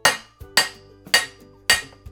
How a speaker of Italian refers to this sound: Un giorno l'uccellino giallo vede il suo amico gufetto con una pentola e due mestoli e gli chiede: che cosa state facendo? Sto suonando e non si sente?